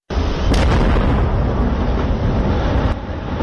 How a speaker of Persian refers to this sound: صدای انفجار بارود در یکی از معادن نورستان بود که یک تاجر سنگ‌های قیمتی و نیمه قیمتی از شرق افغانستان آن را با رادیو آزادی شریک ساخته بود.